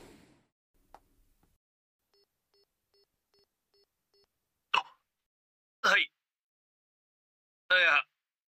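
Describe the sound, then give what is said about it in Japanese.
A phone rings for an incoming call: a run of soft, evenly spaced electronic beeps, then three louder, brighter ringtone bursts spaced out over the next few seconds, with no talking. “いきなり電話来たからびっくりした。”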